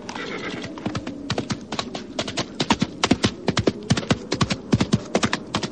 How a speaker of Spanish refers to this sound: Le dije al caballo que prosiguiera y el animal volvió a galopar.